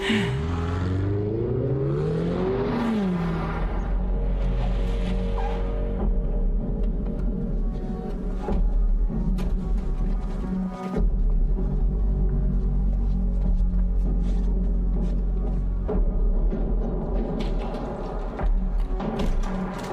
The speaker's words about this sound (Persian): اوه پسر، این ماشین مثل ساعت کار میکنه.